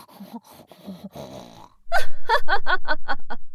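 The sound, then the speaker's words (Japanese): A voice imitates a pig: after a moment of quieter, murmured vocalizing, it breaks into a loud, rapid string of about nine rough, snorting grunts in steady rhythm. “やはりお前は豚声が似合うな。”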